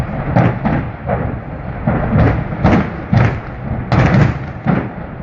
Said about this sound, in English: Right, those are hundreds upon hundreds of explosions popping off from an industrial building in Detroit, where they're reportedly owned by Select Distributors and Goo, two companies that house nitrous oxide tanks and butane, among other items.